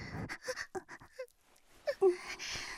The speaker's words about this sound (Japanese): 吐息、めっちゃ耳にかかる。